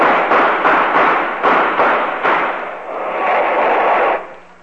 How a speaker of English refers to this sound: Here comes the firing squad now.